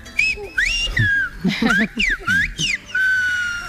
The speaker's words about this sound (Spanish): Al programa llevaron desde La Gomera algo que a mí me parece precioso, el silbo gomero.